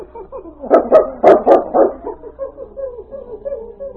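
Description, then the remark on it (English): A dog named King, just given a rag to sniff, lets out a quick burst of about five sharp, loud barks, then trails off into a series of softer, shorter whining yips. “Here, King. Take a sniff of this, fella. Find it, boy.”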